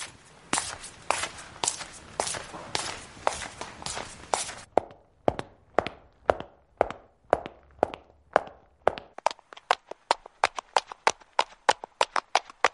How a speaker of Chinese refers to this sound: 嗯，有没有听出来这三种音效所代表的是什么样的脚步声吗？第一种呢，是室内的拖鞋声。第二种是高跟鞋慢走的声音